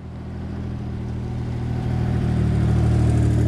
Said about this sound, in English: The vehicle departs.